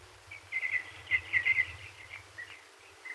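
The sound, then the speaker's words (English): Birds singing in trees in broad daylight chirp and twitter in a quick cluster of short, bright calls, then trail off into softer tweets over a faint low rumble, with no voices. “The birds were singing in the trees below me.”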